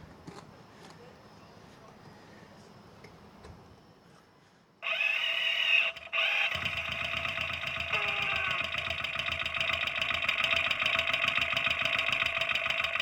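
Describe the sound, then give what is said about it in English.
After a few quiet seconds, a motorcycle engine abruptly starts up, falters for a moment, then settles into a loud, steady idle with a buzzing, rattling drone that continues to the end. “And I'm going to move my mic around to hear parts of the engine.”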